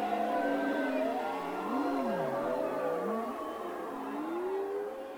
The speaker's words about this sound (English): We recorded this sound in April when sea mammals were migrating north through the Bering Strait.